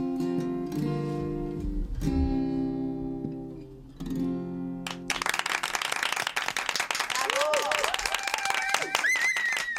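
A song's sustained final notes ring out, then loud audience applause and cheering erupts for the performers on the Onda Madrid radio programme Buenos Días Madrid, continuing steadily to the end, with scattered whoops rising above the dense clapping.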